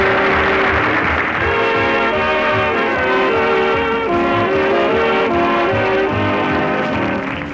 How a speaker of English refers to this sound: Better hurry up, Scooter. Here comes the train.